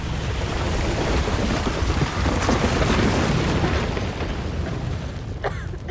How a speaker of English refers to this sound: Outside, the lair explodes behind Team Possible as they run. The shockwave knocks them off their feet. Fire burns on the ground. The lair crumbles.